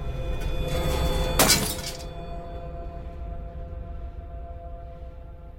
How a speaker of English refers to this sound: Later, Adam looks in the mirror, then headbutts the glass in frustration.